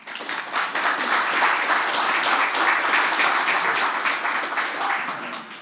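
An audience at a church service breaks into sustained applause welcoming two newly ordained deacons, a dense, steady wash of many hands clapping at full strength for several seconds before tapering slightly at the end.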